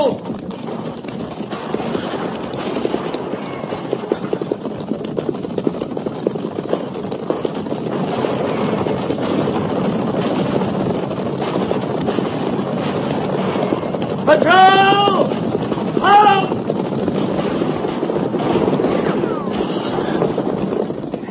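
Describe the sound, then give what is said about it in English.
A steady, thundering rumble of many horses galloping, ridden by soldiers near the Oregon Trail, fills the whole stretch, joined near the end by two sharp, high horse whinnies in quick succession. “Guns, Captain. At the gallop! Ho!”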